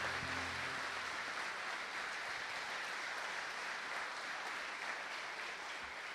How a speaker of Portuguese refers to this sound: Quem crê em milagres? Então aplauda esse Deus maravilhoso.